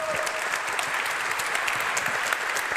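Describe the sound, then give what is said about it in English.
A crowd breaks into steady, dense applause to welcome a speaker before a talk, many hands clapping at once in a continuous wash of sharp claps that holds at an even, fairly loud level throughout. “Please welcome her with a great round of applause.”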